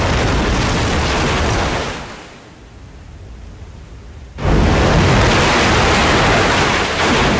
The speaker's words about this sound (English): Behind them, the supporting pillars crack and crumble. The roof soon follows.